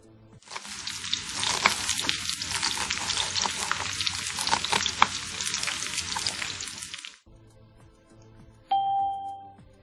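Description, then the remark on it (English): Loud, steady sizzling of food frying in a hot pan for several seconds, then it cuts off and a two-tone doorbell chime rings once near the end. “He's cooking.”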